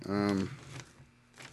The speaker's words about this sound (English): Sorry, I'm grabbing some notes. Sorry for the shuffling of papers. Really bad.